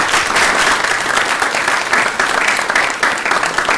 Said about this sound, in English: So everybody give her a round of applause.